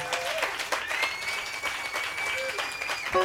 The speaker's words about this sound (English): Before that, we could also please get a round of applause